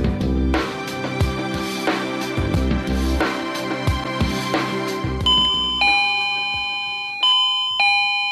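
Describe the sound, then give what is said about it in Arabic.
A doorbell at the front door chimes twice in ringing ding-dong pairs, its bright, sustained tones clear and fairly loud, after a busy, thumping rhythmic stretch of sound. No one speaks. “يعني انتوا ما سامعين الباب ده؟”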